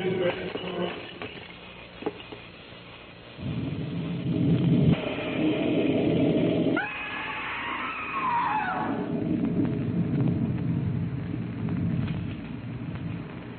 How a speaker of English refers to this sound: What? What was it? I can't see. That flash. Lightning. It must have struck.